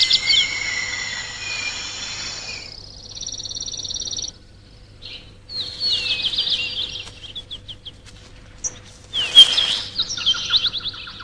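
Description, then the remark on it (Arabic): Weaver birds chatter and chirp busily at a riverside nesting colony, with overlapping high twitters and buzzy calls in quick, irregular bursts, over a low steady background hum; males bring caught insects through the downward-facing nest entrances to feed females and young, nests hanging over the river. “في هذه المستوطنة وعلى جانب النهر تقوم ذكور طائر الحباك بإدخال الحشرات التي اصطادوها من الأبواب المقلوبة لإطعام الإناث والصغار والسلور.”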